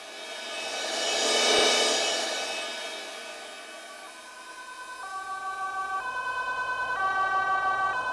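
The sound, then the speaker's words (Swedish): A vehicle rumbles past with a rising and fading whoosh, then an ambulance siren sets in, alternating between two tones in a steady hi-lo pattern and growing louder as it approaches. “Sen, efter det som känns som en evighet, kommer ambulansen.”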